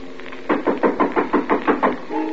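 knocking on a door

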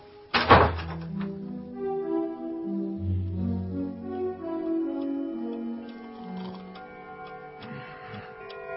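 door opening or closing

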